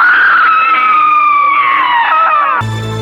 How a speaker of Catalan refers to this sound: Començà a moure's compulsivament, a cridar, a xisclar, presonera d'un pànic i d'un terror indescriptibles.